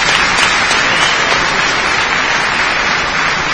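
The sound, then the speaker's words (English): A crowd claps steadily, a dense, even wash of applause that holds at a constant loudness for the whole few seconds with no voices rising above it. “Give you guys a round of applause.”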